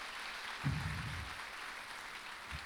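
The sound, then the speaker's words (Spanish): A church audience applauds the Lord steadily, a dense wash of many hands clapping at once with no distinct individual claps, with a brief low murmur of voices underneath early on. “Dale un aplauso al Señor por lo que Él va a hacer en tu vida.”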